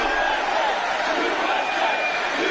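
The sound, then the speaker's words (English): A large crowd chants "USA" in unison, a loud, steady wash of many voices that holds at an even volume throughout, with no single speaker standing out. “There's the USA chant.”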